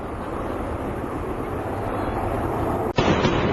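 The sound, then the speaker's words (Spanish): A steady, wide roar like wind or traffic fills the first three seconds, then a single sharp, loud sonic boom from an aircraft breaking the sound barrier cracks out, followed by a heavier rumbling wash of sound. “rompía la barrera del sonido segundos después de haber despejado, para que nos hagamos una idea de lo que ocurrió este miércoles en París y cómo sonó esa explosión, que claro, no me extraña que todos se preguntaran de dónde había procedido.”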